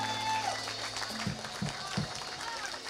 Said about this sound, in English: Give him one more hand clap of praise.